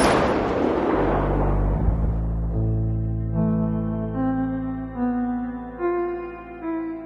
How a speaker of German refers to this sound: So ein Schuss im Dunkeln. Ja. Gibt's auch.